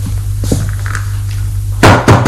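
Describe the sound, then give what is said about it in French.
Two loud, heavy knocks on a door land near the end, spaced a fraction of a second apart, over a steady low hum. A couple of faint taps come earlier. “On frappe à la porte.”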